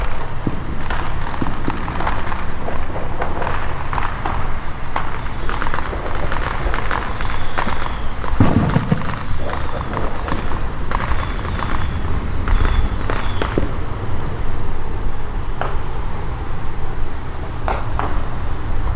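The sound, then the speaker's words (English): Fireworks bang and crackle from every direction all around, a dense, continuous barrage of overlapping pops and booms, some sharp, with big booms off to the northwest, with no pause across the whole stretch. “Basically, there's fireworks just all around me, every direction.”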